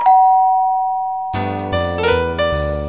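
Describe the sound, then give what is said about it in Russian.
A doorbell chime strikes one clear, ringing tone that slowly fades, then gives way to a bright, busier run of layered notes with a low thumping pulse underneath. No one speaks. “– возмутился папулька, и только собрался было начать с мамулькой скандал по полной программе, как в дверь раздался звонок.”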